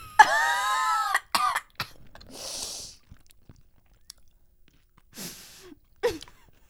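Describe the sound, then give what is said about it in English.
A loud burst of harsh coughing and sputtering from someone who has just tasted a candy, followed by a few shorter hacking bursts and breathy exhales spread over several seconds, with faint wet mouth and chewing noises between them. “I instantly coughed.”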